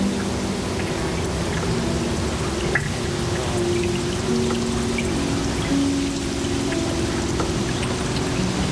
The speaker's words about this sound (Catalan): Sentíem la pluja.